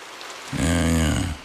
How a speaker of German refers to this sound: Regen. Ewig grau. Müssen Sie sich das anhören? Also das müssen Sie sich nun wirklich nicht anhören.